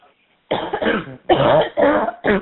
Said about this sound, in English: I am totally finished coughing. I just actually took some of that throat spray, throat spray that numbs the back of your throat.